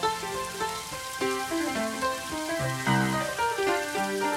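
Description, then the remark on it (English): Steady, hissing rain patters continuously beneath a slow melodic musical passage of sustained pitched notes, the rain's texture filling the background at a moderate, even level. “Hear the rain.”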